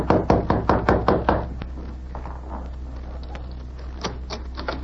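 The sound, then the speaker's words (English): A rapid run of about ten loud, sharp knocks on the door of the editor's room, room number 4, then a lull with a low steady hum underneath and a few fainter taps near the end. “He knocked on the door.”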